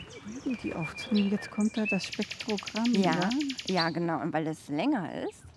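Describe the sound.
Birdsong with a rapid, buzzy high trill in the middle, mixed with lower warbling, voice-like notes. It sounds clear and runs steadily for several seconds.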